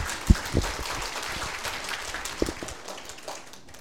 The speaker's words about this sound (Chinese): 为着我们的创天造地的神给我们这么好的大自然，我们感谢主，好吗？给你掌声，我们的神。